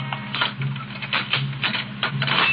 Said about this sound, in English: It's early the next morning. In his cell in the city jail, Ace is seated on the edge of an iron cot, his shoulders drooping, his head in his hands. Suddenly, he hears footsteps in the corridor and springs to his feet, every nerve alert.